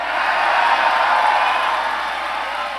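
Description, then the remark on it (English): An audience at a Republican political event applauds steadily after candidate Mayberry asks how many want to put Donald Trump in the White House, a dense wash of clapping that holds fairly loud for about three seconds and eases slightly near the end, with no voices standing out. “But Mayberry only really got the applause he was looking for with this one.”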